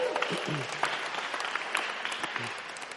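An audience applauds steadily, a dense wash of many hands clapping at an even level throughout, with faint voices and a few low calls mixed in beneath the clapping.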